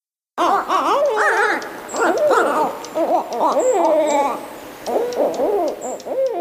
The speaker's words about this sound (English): And then we get these really wild, raucous, occasionally hair-raising calls of the barred owls, which mm-hmm. a lot of people will have been hearing in their backyards. Yeah, some of them sound like monkeys. Yeah, they're outrageous.